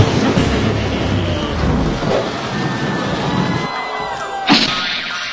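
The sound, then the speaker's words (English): A dense storm sound effect of rumbling thunder and pattering hail, played as a 'Whammy weather' gag on a TV game show, fills the whole stretch, steady and loud, with a sharp crack bursting out near the end. “It appears we'll have patches of hail moving in today, especially around your money!”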